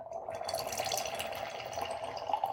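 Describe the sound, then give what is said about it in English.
Wine pours in a steady, gurgling stream into a Cooper's Hawk crystal glass, with a rising ringing tone as it fills. No one speaks. “We'll just pour a little bit in the glass, give it a little tasting first, and give it a good swirl.”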